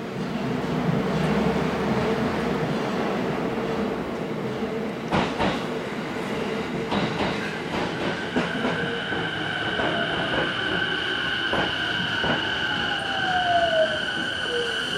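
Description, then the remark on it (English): A train going out to Okutama rolls past on the railway, a steady loud rumble with rhythmic clacks from the wheels and a rising metallic squeal toward the end. “So here comes the train, but that's not my train.”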